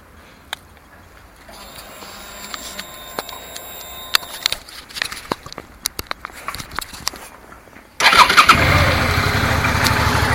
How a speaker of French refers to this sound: Et puis, dès que je la démarre, je vous fais part de ce nouveau bruit. Allez, tout est prêt, il n'y a plus qu'à mettre le moteur en route. Attention.